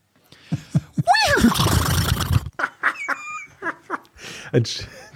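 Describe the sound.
A person imitates a horse's neigh: a quavering, descending whinny that breaks into a long, rough, breathy blowing sound, followed by scattered short vocal sounds and what seems like laughter.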